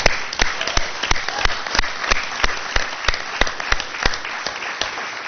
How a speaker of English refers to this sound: And so what the 62 retirees that came before us, and, you know, not all of them tonight, but hopefully they'll get to witness and watch all of us clapping on air, represent 1,584 years of service to the San Luis Coastal School District.